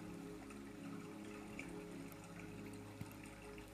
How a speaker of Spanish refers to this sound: Y hoy vamos a hacer una meditación para aprender a escuchar y concentrarnos en el sonido del agua.